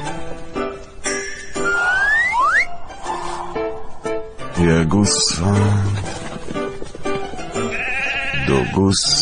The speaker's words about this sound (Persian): گوسفند، دوازده تا گوسفند